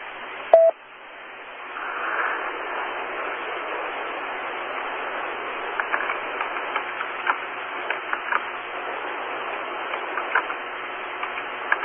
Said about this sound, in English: It does sound like QRM, but it sounds like QRM from a distant station. I'm sure it's just a little atmospheric. It sounds curious.